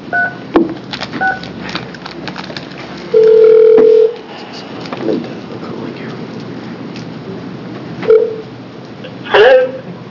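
A telephone call being placed from a House Committee on Health Care public hearing on Senate Bill 572A: a few short dial beeps and a single sustained ringing tone lasting about a second, heard over a steady hiss of line noise with faint background murmur.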